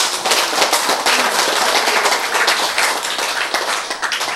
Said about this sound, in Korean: 박수!